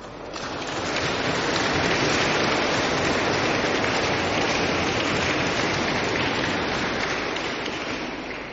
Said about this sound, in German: das Klatschen macht einiges deutlich.